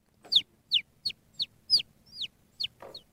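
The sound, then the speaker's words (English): Someone imitates a baby bird in its nest calling out to its mother for a worm, with eight short, high chirps that slide downward, repeated in a quick, slightly uneven series. Fairly loud, with no talking. “It's not a bird. It's a baby bird.”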